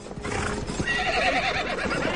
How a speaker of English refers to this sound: That's the horse.